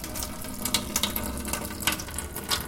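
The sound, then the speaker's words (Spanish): A faucet runs with a steady hiss of water, broken by irregular sputtering bursts as the water supply is cut off, moderately loud, with no voices. “¡Ay, no! Otra vez cortaron el agua.”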